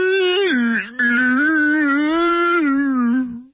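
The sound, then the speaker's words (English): A voice does a drawn-out, wavering whale-speak imitation like Dory talking to the whales, a loud sustained tone that dips, breaks once briefly, then slowly bends up and down for several seconds before fading. “Yeah, that's Dory. And Dory and when she talked to the whales.”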